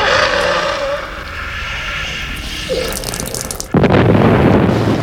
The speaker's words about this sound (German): Sie explodiert!